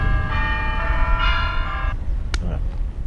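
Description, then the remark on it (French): Bells ring out in a sustained, layered peal for about a second and a half over a low outdoor rumble in the park of the Palace of Versailles, France, followed by a brief sharp click and quieter noise. “Vous voyez qu'il sonne le téléphone même dans le parc du château de Versailles. Oui, mais c'est des cloches quand même.”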